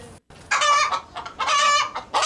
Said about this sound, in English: Yeah, those are real hens.